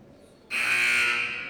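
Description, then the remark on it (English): A loud, sustained electronic basketball buzzer blares suddenly after a brief quiet moment and holds steady, harsh and bright, until the end. “At the buzzer, the two teams will come out.”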